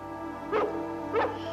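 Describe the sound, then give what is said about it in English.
Two short barks from Dalmatians, spaced about half a second apart at moderate volume over a steady humming background tone. No one speaks. “Sometimes at night I can hear them barking.”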